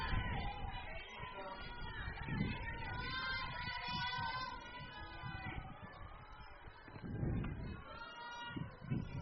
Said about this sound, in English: Sirens. I don't like hearing sirens either, but sounds like the squad's going to be coming into Fort Recovery.